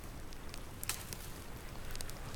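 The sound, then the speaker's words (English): A campfire at a camp, with a pan on the fire, crackles softly over a low, steady hiss, with scattered sharp pops and snaps breaking through at irregular moments. No voices are heard. “Later, he squats by a campfire and drinks from a bottle of whiskey.”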